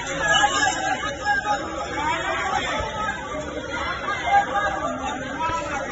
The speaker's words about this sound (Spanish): Esto que escuchan es el sonido de una pelea multitudinaria que ocurría en la calle Franchi Roca, en Las Palmas de Gran Canaria, a las 6:30 de la mañana del domingo, a la salida de una discoteca. Al parecer, un robo desencadenó esta trifulca